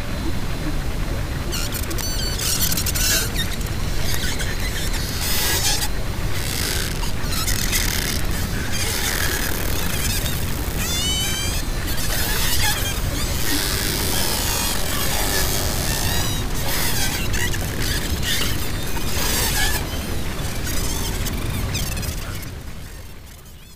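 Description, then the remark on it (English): Underwater hydrophone recording of white-sided dolphins in Monterey Bay: a dense, crackling barrage of clicks and buzzes laced with high, squeaky rising and falling whistles, steady and loud throughout before tapering off at the end. “That was the sound of a white-sided dolphin recorded by Hydrophones in Monterey Bay.”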